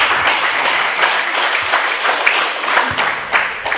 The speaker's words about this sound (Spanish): y por favor nuevamente recíbela con un fuerte aplauso para su intervención.